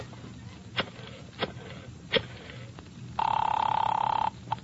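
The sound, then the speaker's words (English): A few sharp clicks and clatters, then a wall-mounted telephone rings once in a loud, rapidly trilling burst lasting about a second before cutting off, with no one speaking. “May I use your phone? Yeah, right here on the wall.”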